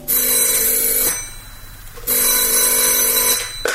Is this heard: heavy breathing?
no